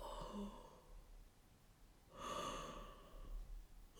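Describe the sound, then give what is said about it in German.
Saint Nicholas yawns: a drawn-out, breathy yawn that rises into an open, airy exhale midway through after a quieter intake of breath, heard on its own. “Der Nikolaus gähnte und heizte den Ofen ein.”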